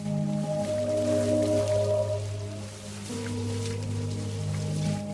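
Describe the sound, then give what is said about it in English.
A hand, wrapped in a plastic bag, plunges into bloody toilet water and feels around the U-bend, sloshing and squelching with soft wet swirling sounds, partly buried under a steady, sustained musical drone that continues throughout. “He wraps it around his arm, then plunges his hand into the water.”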